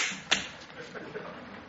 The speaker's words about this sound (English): Dare you slap me? Don't you ever hit me again!